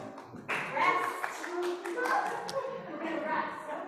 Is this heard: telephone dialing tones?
no